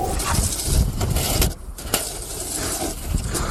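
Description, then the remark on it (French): Snow shovels clearing snow from sidewalks in Moscow scrape across the pavement in a continuous, gritty rasp that briefly drops off midway before the rough grinding starts again. No one speaks. “Bah oui, le crissement des pelles sur les trottoirs pour déneiger et éviter les chutes.”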